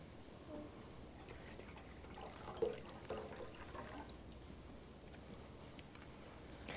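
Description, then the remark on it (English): Water from the Jordan River pours and trickles steadily into a container for several seconds, a soft continuous splashing with a slightly louder splash partway through, moderately quiet. “Water from the Jordan River.”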